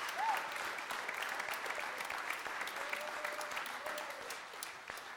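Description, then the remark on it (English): An audience claps steadily to give thanks to God, a dense, continuous wash of many hands clapping at once, with faint scattered voices calling out beneath it. “Would everybody just clap your hands and give thanks to God right now?”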